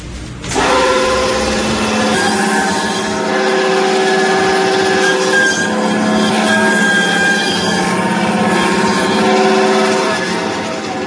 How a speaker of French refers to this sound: C'est la ventrèche du veau. C'est le tendon. Alors, je l'ai passé à la scie, ça fait pas très, très traditionnel, cette histoire-là. Mais c'est pour éviter les éclats d'os.